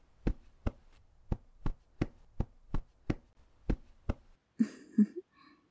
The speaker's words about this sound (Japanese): 体の揺らぎを感じながら、腰から感じる振動に、意識を集中して、また肩までゆっくりと戻っていきます。トントン、トントン、トントン。